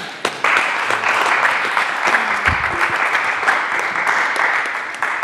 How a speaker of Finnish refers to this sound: Kiitoksia, aplodit.